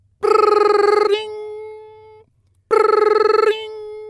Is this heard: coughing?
no